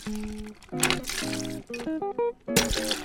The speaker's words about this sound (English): Okay, so you get a shaker, and well, you chill the glasses, you get a shaker, and you're going to put in a good healthy shot of vodka.